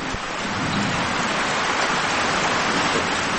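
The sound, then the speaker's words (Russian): A heavy downpour roars steadily, a dense, even hiss of rain with no pauses or voices, loud throughout. “От макро к микро, ливень, как мы его слышим.”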